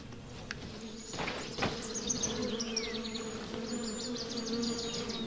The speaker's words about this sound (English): I hear the bees. I don't see them. They must be off the path somewhere.